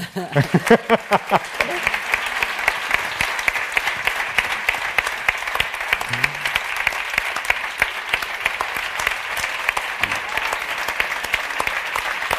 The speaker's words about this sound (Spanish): Hombre, pero que os venid, que os vean, que os aplaudan, coño. Más.